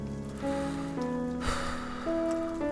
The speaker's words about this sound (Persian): داره بارون میاد. نمیدونم چرا بارون که میگیره از خود بی خود میشم، صداها رو نمیشنوم، فقط شرشور بارون تو گوشم میپیچه.